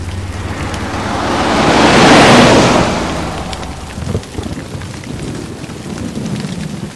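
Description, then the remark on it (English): Steady rain hisses down, swelling to a heavy wash around the middle before easing back to a softer patter with scattered drips; no voices. “The rain's not gonna stop anytime soon now, is it?”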